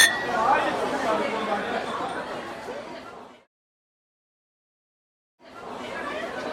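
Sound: glasses clinking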